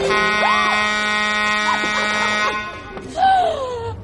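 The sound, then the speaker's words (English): A loud, sustained fire truck air horn, sounded by pulling the horn strap, blares for about two and a half seconds, then cuts off abruptly, followed by a brief vocal reaction. “He leans in slowly, then reaches up and pulls the air horn strap.”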